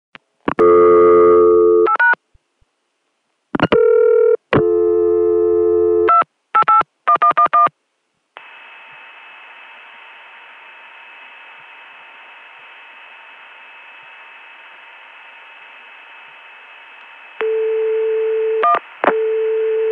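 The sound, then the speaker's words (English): A quick series of loud telephone dialing tones in short bursts, then a steady, continuous 288 PBX dial tone for several seconds, followed by a few more tones as an extension is dialed at the end. No voices. “The 288 PBX dial tone sounds similar but is not the same as the CCSA dial tone from Chicago and Connecticut.”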